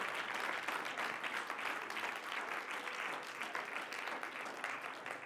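A crowd at a church sermon claps steadily for about five seconds after the preacher calls for it. It is a dense, even wash of many hands with no pauses, and no one speaks over it.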